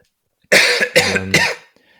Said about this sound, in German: Wir nehmen jetzt auch schon sehr lange auf und ich glaube, jeder kennt diesen Moment, wenn es vom Husten her dann einfach irgendwann immer schlimmer wird.